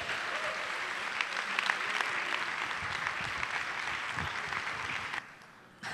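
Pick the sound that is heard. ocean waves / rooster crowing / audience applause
audience applause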